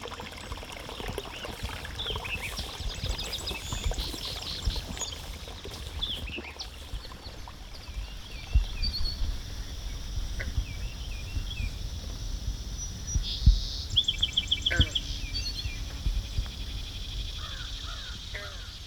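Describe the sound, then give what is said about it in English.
Sloshing, squishing footsteps wade through shallow freshwater wetland water in Blacksburg, Virginia, on a midsummer exploration on July 27, 2016, in an irregular rhythm, while crows caw and insects buzz steadily in the background. “This week, we follow the sounds of sloshing, squishing steps on a midsummer exploration of a freshwater wetland in Blacksburg, Virginia.”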